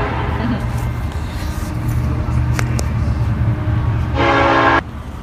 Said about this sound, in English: We're going to stop here for a second while this train goes by, because it's going to like block out the sound.